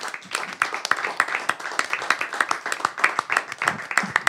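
An audience breaks into sustained applause, a dense steady patter of many hands clapping for several seconds, with a faint murmur of voices underneath.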